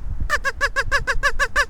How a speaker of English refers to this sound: I brought my duck call out today so we can make duck noises.